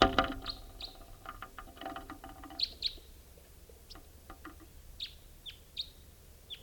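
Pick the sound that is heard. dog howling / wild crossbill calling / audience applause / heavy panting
wild crossbill calling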